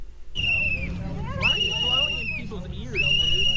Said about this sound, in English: It was a guy with a whistle that broke it up.